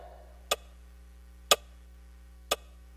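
A clock ticks three times, one sharp click each second at a steady pace, clear over a faint low hum with no voices.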